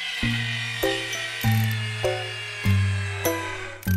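Power tools buzz in steady, droning tones that shift to a new pitch roughly every half second, stepping through the tune of the Dance of the Sugar Plum Fairy from Tchaikovsky's Nutcracker. The buzzing stays fairly loud throughout, with no voices.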